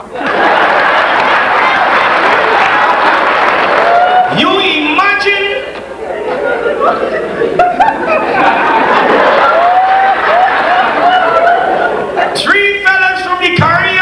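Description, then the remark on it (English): An audience claps loudly and steadily for the whole stretch, with crowd chatter and a few rising whoops and cheers mixed through the applause. “could either take a joke or give one. Clap.”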